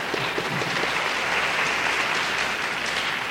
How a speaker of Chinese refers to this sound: 另外今天晚上我们在很高兴有中华民国驻美协调会强夫代表的夫人强夫人在我们中间，请强夫人站起来我们鼓掌。